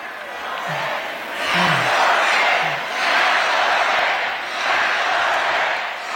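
A large crowd chants together at a rally as Hochul takes the stage, loud rhythmic swells of many voices rising and falling in repeated waves, with a dense roar of cheering underneath.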